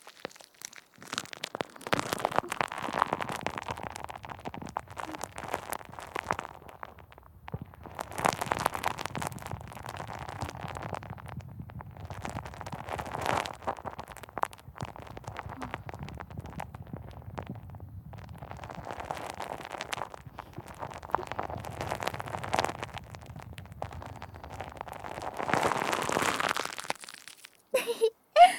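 Dense crackling of soft, fluffy, fizzing carbonated foam bubbles pressed directly against the ear, popping continuously in waves that swell and ease over half a minute, with no voice.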